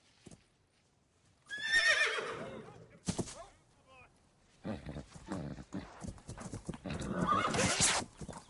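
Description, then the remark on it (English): A horse lets out a loud, shrill whinny, followed by a burst of frantic hoofbeats and snorting as it stamps and clatters about, with a second agitated neigh near the end. “The horse is nuts.”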